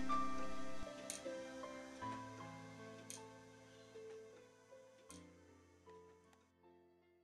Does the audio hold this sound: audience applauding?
no